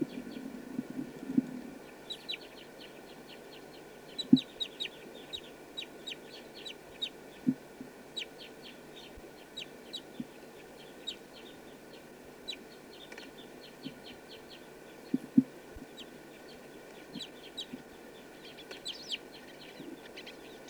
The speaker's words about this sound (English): That was bird 248.